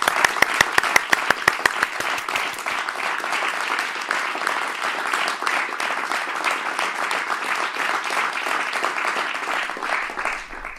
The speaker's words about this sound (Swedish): Ni får en applåd här.